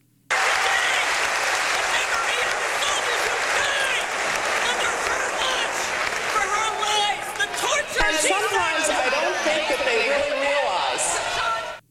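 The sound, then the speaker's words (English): A large crowd at Vermont's Norwich University claps steadily and loudly for about eleven seconds, with chattering voices and a few shouts mixed into the applause, growing more noticeable in the later seconds, as protesters heckle former Secretary of State Condoleezza Rice. “In the face of a large, hostile crowd, the protesters continued to voice their displeasure with Rice and the policies she has championed.”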